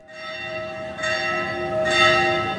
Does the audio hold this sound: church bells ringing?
yes